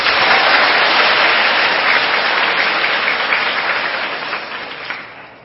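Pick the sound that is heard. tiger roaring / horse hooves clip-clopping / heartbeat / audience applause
audience applause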